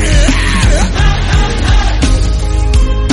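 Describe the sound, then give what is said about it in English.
A crowd yells and shouts all at once at the speaker's call to yell out at the devil, loud and sustained, a dense wall of overlapping voices for a few seconds with a thumping low rumble underneath. “Somebody say, yell it out unto the devil.”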